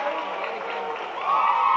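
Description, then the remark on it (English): A dense, steady roar from a large Freeport basketball crowd, cheering and shouting together during free throws. The noise swells louder near the end, with voices mixed throughout. “And the Freeport crowd continually distracting, not distracting, just making noise.”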